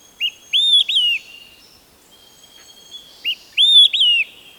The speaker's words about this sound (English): The whistled melody of an olive-sided flycatcher. The song carries for hundreds of yards along a forest edge. Its three notes are distinctive. Some liken the song to the phrase, "Quick, three beers!"